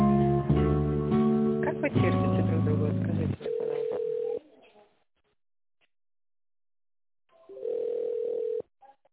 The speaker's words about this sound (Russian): Пожалуйста, оставайтесь на линии и дождитесь ответа оператора. Или нажмите 1, дождитесь гудка, и мы перезвоним вам в течение нескольких минут.